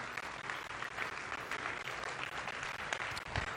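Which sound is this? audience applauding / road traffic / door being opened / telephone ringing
audience applauding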